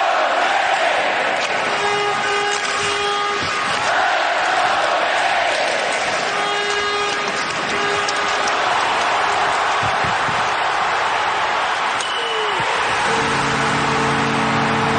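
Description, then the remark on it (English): A large ice hockey arena crowd roars and cheers continuously at the first goal of a Stanley Cup Final game between the Hurricanes and Golden Knights, with whistles, horn blasts and a rising swell of noise, a few sustained tones cutting through near the end. “It was cool to just hear the crowd, though.”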